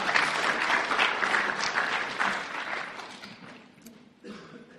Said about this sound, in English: Thank you very much. Round of applause for our two volunteers.